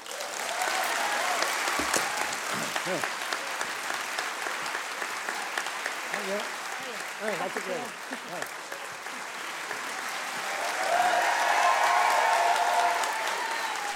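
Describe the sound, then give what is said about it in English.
A crowd at a storytelling event applauds steadily with dense, continuous clapping as a storyteller leaves the stage, joined by cheers and whoops that swell louder toward the end, with some voices calling out over the noise. “who got an extra loud cheer as he left the stage that night”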